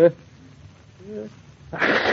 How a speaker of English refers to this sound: That shows you I sneezed 4 times. That's a worse cold.